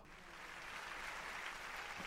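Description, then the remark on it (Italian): A crowd applauding, with dense, steady clapping that holds at an even, fairly soft level for about two seconds, with no voices. “E qui c'è ancora applausi.”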